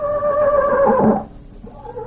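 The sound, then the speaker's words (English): A horse named Tarzan lets out a single shrill, wavering whinny that slides downward and cuts off after about a second, leaving a quieter low rumble behind. No one speaks. “Well, that was Tarzan again.”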